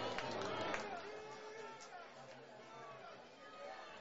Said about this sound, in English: A beautiful afternoon for baseball. 68 degrees, 11 mile per hour wind, sunny with a couple clouds as well. You can see the mountains in the background as well as the crowd getting ready for some beer, if you can hear right here on the broadcast.